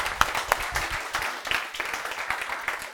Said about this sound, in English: Now, ladies and gentlemen, without embarrassing our friends, but our friends from Warsaw are here, so we need to give them a huge round of applause.